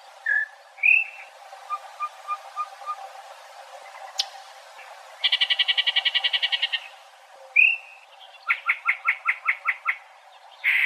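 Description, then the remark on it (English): A bird sings an odd, jumbled song of slurred whistles, a row of soft piping notes, and rapid buzzy rattling trills, repeated in bursts, clear with no voices. “They have one of the craziest songs that you'll ever hear.”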